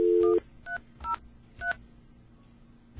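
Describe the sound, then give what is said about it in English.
Old telephone tones from an old recording of a phone call not going through: a steady dial tone cuts off, then three short, evenly spaced electronic beeps of two blended pitches follow over a quiet line hiss. No voices. “How about an old-school recording of a phone call not going through?”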